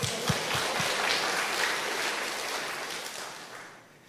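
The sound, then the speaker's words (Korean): A church audience breaks into applause during a sermon: dense, steady clapping from many hands that holds strong for several seconds, then gradually tapers off at the end, with no voices over it. “할렐루야. 박수.”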